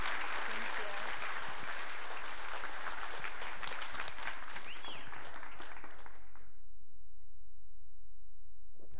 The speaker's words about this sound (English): they do so much every week to point our kids to Jesus, and we want to just give them an extra round of applause for everything they've done. Thank you.